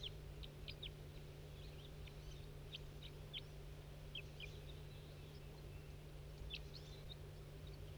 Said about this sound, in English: Stop. That's that wild bird that was tubing. Stop. Start recording that wild bird that was tubing.